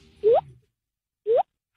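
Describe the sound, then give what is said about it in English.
Two mouth-made water drop sounds imitating a dripping tap, picked up by a phone, each a quick rising 'bloop' that sweeps upward in pitch, separated by about a second of silence. Loud and clear, with no talking. “Look, I'll give you the water drop because you want the water drop.”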